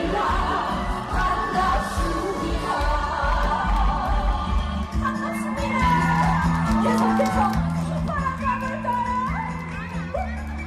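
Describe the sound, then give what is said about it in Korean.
Upbeat live music with a steady bass pulse and bright melodic lines at a talk concert, while the audience whoops and shouts along throughout, the cheering blending loudly with the band. “흥겨운 음악 소리에 관객들 반응도 좋은데요.”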